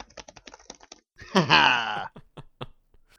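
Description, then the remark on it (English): Quick clicks of typing on a computer keyboard, interrupted by a loud, drawn-out groaning moan that slides downward, then a few more scattered keystrokes. “You should get a Dreamcast and the keyboard just for that game.”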